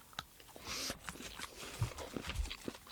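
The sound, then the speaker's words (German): Wet, irregular lip-smacking and chewing clicks while someone eats a sweet with pistachio cream in the middle, a quick series of short moist pops and smacks with soft mouth noises in between and no talking. “Endlich Schmatzen erlaubt im Podcast.”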